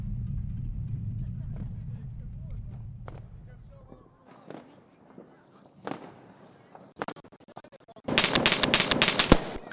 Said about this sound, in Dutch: Nou, het vuurwerk oud en nieuw is losgebarsten. Het nieuwe jaar en het decennium is begonnen.